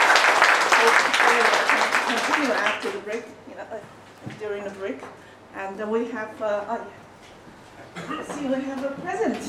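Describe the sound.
A loud burst of audience applause for a presenter after his research talk, dense clapping for about three seconds, quickly dies away as someone begins speaking over the fading claps.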